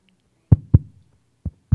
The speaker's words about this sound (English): It's a baby heartbeat, so it's... right? And it keeps going, and you do nothing to sustain your heart.